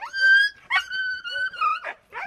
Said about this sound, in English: but it's the talking. Most people, when they hear them going back and forth and they're playing and they're talking, most people think, oh my goodness, that dog's aggressive.